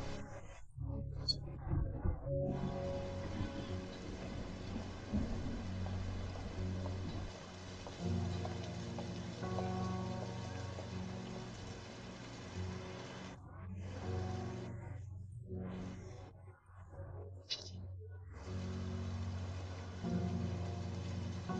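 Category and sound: nature, heavy rain falling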